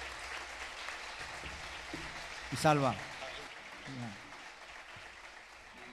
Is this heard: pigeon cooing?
no